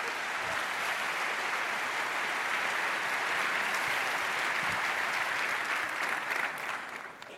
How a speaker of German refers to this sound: Heißt sie herzlich willkommen auf der Bühne. Großen Applaus.